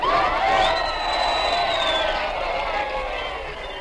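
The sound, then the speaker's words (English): A crowd cheers loudly and steadily for Dr. Hazlitt for about four seconds at the site of a planned clinic in Gladesburg, many voices shouting and whooping together in a dense roar that eases slightly toward the end. “Please, you must not cheer me. No, it is you who should be cheered.”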